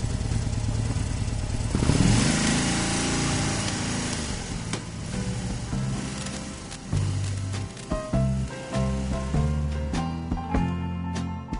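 A BMW motorcycle engine runs steadily, rising in a rev around two seconds, then settling into a smooth, fairly quiet idle with some light mechanical clatter.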